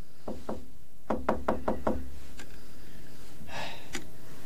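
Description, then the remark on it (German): Two knocks on a locked door, then a quick burst of five louder raps, followed by a few scattered rattling clunks as the handle is tried; clear, with no voices. “Die Tür ist doch offen. Was soll denn das? Ja, kommen Sie rein.”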